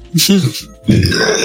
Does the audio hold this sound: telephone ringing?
no